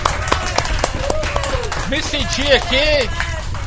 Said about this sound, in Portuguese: Obrigado pelas palmas.